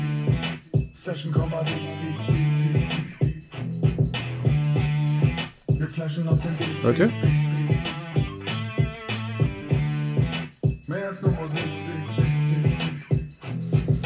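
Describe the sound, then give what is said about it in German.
A small bell sample, without effects, chimes at random, irregular moments over a dense, looping beat with steady bass and percussion, fairly loud, while a voice briefly speaks over the music. “Da packe ich dann mal so dieses Glöckchen, ich habe ja noch dieses Glöckchen hier.”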